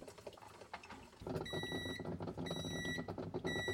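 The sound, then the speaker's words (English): A De'Longhi Brilliante ICMJ210.BK 10-cup filter coffee maker gives a series of high, piercing electronic beeps, three in a row, each lasting about half a second, signalling it is finishing brewing, sounding clearly over the machine's continuing low rumble. “Now it has made the beep that's indicates it's finishing.”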